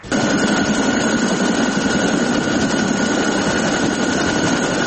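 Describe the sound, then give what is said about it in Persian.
A loud, steady roar of NATO helicopters patrolling over Kabul, Afghanistan, fills the whole stretch, a continuous rotor-and-engine drone overhead with no pauses, constant throughout. “هلیکوپترهای سازمان پیمان اتلانتیک شمالی یا ناتو هنوز هم بر فراز آسمان کابل گشت زنی می کند.”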